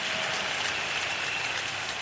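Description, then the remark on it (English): An audience claps together for the Lord after a prayer, in a dense, steady wash of applause, like heavy rain, holding an even loudness throughout with no voices standing out. “Please be seated and put your wonderful hands together for the Lord. I'm sure you can clap better, you can make it bigger, you can make it louder.”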